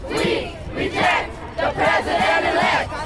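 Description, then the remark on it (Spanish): Hundreds of students from six high schools, who walked out of class, shouting together at a protest march against President-elect Donald Trump and his deportation plan, in loud, rhythmic bursts, voices rising and falling in a repeated chant-like pattern with brief dips between the cries. “Rechazamos al presidente electo, le gritan a Donald Trump cientos de estudiantes de 6 escuelas preparatorias que se salieron de clases y caminaron por las banquetas de la ciudad para manifestar su descontento en un parque frente a la alcaldía”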